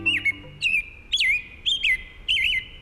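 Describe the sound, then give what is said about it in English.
A female American robin sings a series of about five clear, whistled caroling phrases with short pauses between them, fairly loud, with no voices. “This American robin will lay one egg per day for 3 to 4 days.”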